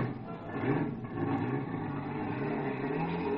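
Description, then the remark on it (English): A car engine is started and runs loudly and steadily, its low rumble rising slightly as it revs and picks up speed, with no voices over it. “Some poor guy was just starting his car.”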